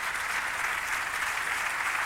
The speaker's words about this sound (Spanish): Con el aplauso del Teatro de las Cortes, que lo estamos escuchando, como decimos ahora, en directo, en este mediodía, en la radio, en Onda Cero.